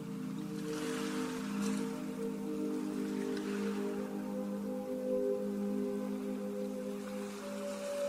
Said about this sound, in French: Le bruit des vagues vous parvient et accompagne toujours votre respiration avec cette même régularité.